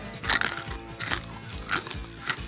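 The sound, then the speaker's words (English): A dog crunches loudly on hard, dry, yellowish dog food kernels, with four or five sharp crunches at uneven intervals over a low, steady tonal background. “Do you suppose you could be a little quieter in chewing your food?”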